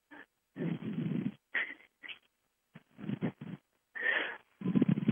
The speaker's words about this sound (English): you're breathing in the mic.